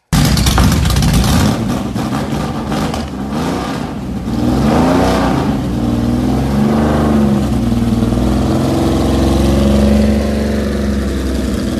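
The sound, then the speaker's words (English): A classic car engine cranks and catches, then settles into a loud rumble and revs up and down several times, the pitch rising and falling with each push of the throttle. “we have tape of that thing firing up, maybe even driving away, so you guys can at least hear it.”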